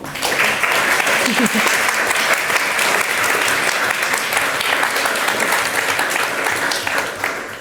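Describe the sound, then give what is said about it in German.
An audience claps steadily in a dense, sustained round of applause welcoming speakers for a talk on the energy transition, staying loud for several seconds before tapering slightly at the end, with a brief murmur of voices early on. “Einmal bitte einen großen Applaus.”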